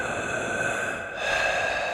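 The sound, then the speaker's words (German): Slow, heavy breathing from a corner of a dark, cool cellar: a long breathy exhale, a brief pause, then another drawn-out breath, with no talking. “Da vernahm sie aus einer Ecke ein langsames Atmen.”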